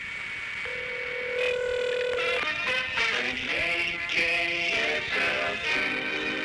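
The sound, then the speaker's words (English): A telephone line rings a home in Edwardsville, Illinois, with a run of steady electronic tones that step between different pitches, clear and fairly loud with no voices over them. “That's your phone ringing. You better run. One more ring.”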